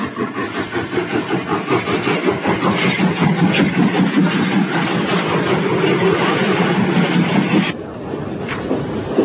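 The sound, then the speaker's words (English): A train locomotive engine runs loudly and steadily, with a throbbing low rumble and a dense mechanical roar that eases off slightly near the end. No voices are heard. “An engine in the rear. This train doesn't need it.”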